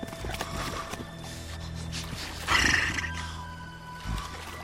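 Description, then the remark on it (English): A white horse stopped on a hill by a flowing river lets out a single sharp whinny midway through, loud, over a steady low rumble of outdoor ambience with no one speaking. “Shang's white horse comes to a stop on a hill. The horse sniffs the air.”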